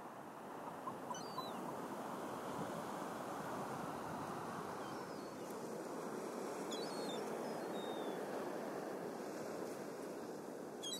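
Sea waves wash steadily against the shore in a continuous, rushing roar, with a light wind blowing over it. No one speaks, and the surf stays at an even, moderate level throughout.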